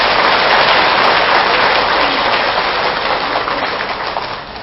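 An audience at a Buddhist talk claps loudly and steadily in a dense, continuous wash of applause that slowly tapers off near the end, with no voices.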